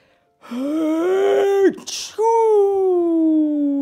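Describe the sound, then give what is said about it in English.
A voice imitates a bear's big sneeze, set off by a small flick of pepper: a long, rising, drawn-out "ahh" builds up, then breaks into a sharp, breathy burst, followed by a sustained, slowly falling vocal tone. “He blows and he sneezes and the whole crowd freezes.”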